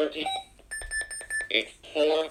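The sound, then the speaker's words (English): An alarm clock sounds a quick run of about eight high electronic beeps lasting under a second, with a voice speaking just before and after it. “This one's got a different alarm tone to the other one.”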